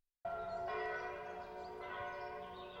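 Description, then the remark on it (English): Distant church bells play a Christmas hymn on Christmas Day, 25 December 1863, ringing out in a few successive strikes, their rich tones overlapping and humming on without pause. The sound is steady and fairly soft, with no voices. “the study is quiet, except for the distant sound of church bells playing a Christmas hymn.”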